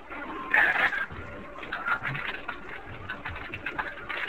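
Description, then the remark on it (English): Keyboard typing as people type to each other: a steady patter of quick, light key clicks with uneven rhythm, and a louder, denser burst near the start. No one speaks. “You can hear us typing in the background to each other.”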